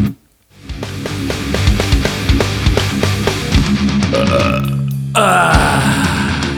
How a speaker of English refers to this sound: I had to burp. That took precedence over the line.